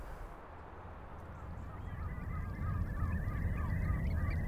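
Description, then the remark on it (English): A large flock of geese honks and calls in overlapping bursts at a nature reserve at Ballinamona Beach, where thousands of water-wading birds have settled just behind the coastline, over a steady low rumble of wind or surf, growing slightly louder toward the end. “Ballinamona Beach is a special nature reserve where thousands of water-wading birds have settled just behind the coastline.”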